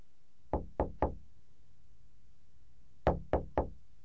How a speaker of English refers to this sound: They knock on the door.